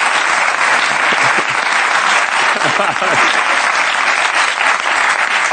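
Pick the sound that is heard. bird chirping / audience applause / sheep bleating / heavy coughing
audience applause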